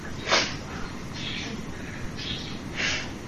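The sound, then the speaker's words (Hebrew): A bird calls several times, four short, bright chirps spaced about a second apart, heard over a steady hiss of background noise. “כן, זה עוד ציפור.”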